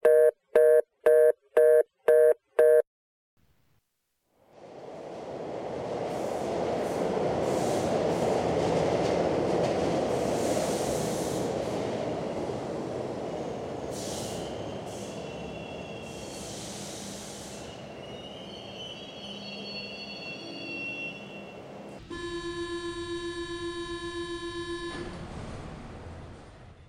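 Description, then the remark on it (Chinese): A subway train rumbles loudly along the tracks with high metallic wheel squeals as it nears a transfer station, preceded by a few short electronic beeps and ending with a steady buzzing tone. “不说了啊，我挂电话了，我快到换乘车站了呢。”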